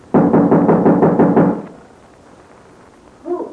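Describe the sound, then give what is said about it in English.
A rapid, loud run of about eight knocks on a door lasts over a second, followed by quiet and then a brief voice calling out "Who is it?" at the very end. “You knock and say you have a message for April Kane.”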